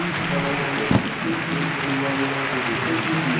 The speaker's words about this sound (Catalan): ovació de l'estadi aquí en Capú